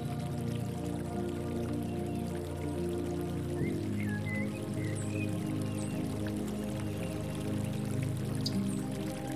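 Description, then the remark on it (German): A small stream trickles gently and steadily, a soft continuous babble of water with no voices, and a few faint high chirps briefly rising above it midway through. “Folgen wir der zarten Wasserader, verändert sich bald das Antlitz dessen, was uns umgibt.”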